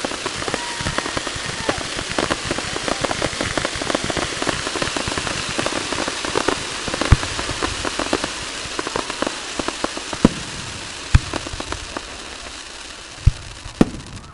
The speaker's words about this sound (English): That is fireworks going off right over us. You can almost reach out and touch them.